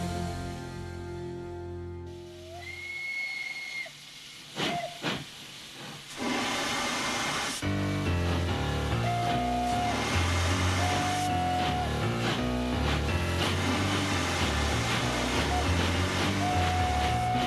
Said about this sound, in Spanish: me has puesto un tren un poquito de vapor. Y esto no se corresponde con la realidad de los trenes que tenemos hoy en día, sobre todo los trenes de cercanías.